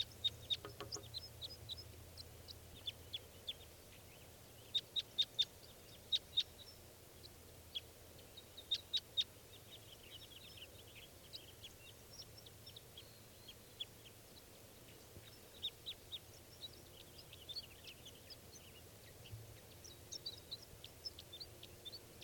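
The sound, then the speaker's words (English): About three wild birds give short, high-pitched chirps, scattered irregularly with a few quick bursts of repeated calls, over a faint steady low hum. No one speaks. “There's still about 3 birds around.”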